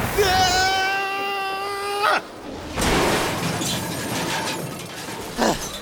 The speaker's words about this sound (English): You get used to the crashes.